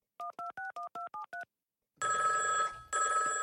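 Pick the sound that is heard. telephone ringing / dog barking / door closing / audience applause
telephone ringing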